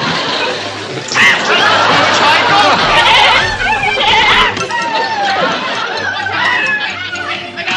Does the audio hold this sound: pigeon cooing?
no